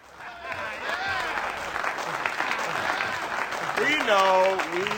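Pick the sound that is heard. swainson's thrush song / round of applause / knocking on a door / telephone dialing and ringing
round of applause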